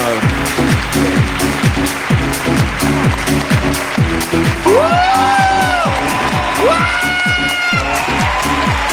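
Steady audience applause, dense and loud for the whole stretch, with rising whoops and cheers breaking through partway and a pulsing low beat underneath.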